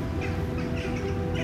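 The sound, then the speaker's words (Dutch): Birds call outdoors by a garden pond in a few short, scattered bursts, over a steady low rumble of wind or background noise. No one speaks. “Hoor je de vogels?”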